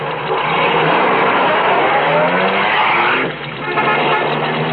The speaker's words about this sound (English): Hey, there's a car coming. It's pulling off the highway.